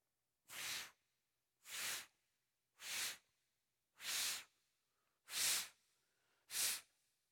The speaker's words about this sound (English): So I'm going to take the red balloon and I'm going to blow it up. Ready?